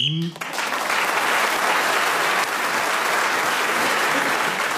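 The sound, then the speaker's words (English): A short, sharp whistle blast sounds at the very start, marking the end of the time, then a crowd breaks into loud, sustained applause that fills the rest of the moment. “You were speaking as a whistle went, gained that extra point.”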